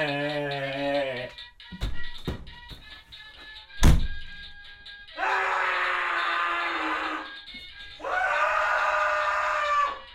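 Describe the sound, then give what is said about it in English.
A person screams twice in long, loud, sustained bursts, each lasting about two seconds, after a short vocal sound and a few sharp thumps and taps. “If the problem still consists, scream again.”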